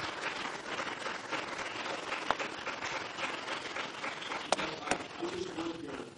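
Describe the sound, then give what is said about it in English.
A crowd applauds the master of ceremonies steadily for several seconds, a dense, even wash of clapping with a few sharper claps standing out near the end and some faint murmuring underneath. “Une main d'applaudissement pour notre maître de cérémonie.”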